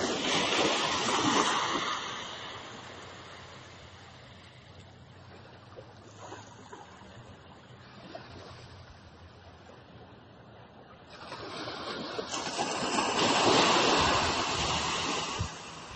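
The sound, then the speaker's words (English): Ocean waves wash in and recede, a broad hissing roar that swells loudly at the start, eases into a softer steady rush, then builds again into another loud surge. No one speaks. “And I want you to just listen to the waves.”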